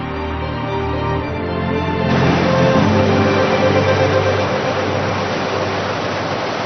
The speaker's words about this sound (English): Water begins to flow down the mountainside once more, replenishing the landscape.